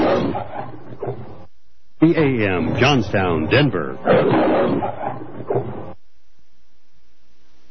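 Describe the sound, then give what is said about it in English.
A man's voice announces the station ident for The Lion, KHNC 1360 AM, Johnstown, Denver, and a loud lion roar swells under and through the announcement before the audio cuts to silence. “This is The Lion, KHNC 1360 AM, Johnstown, Denver.”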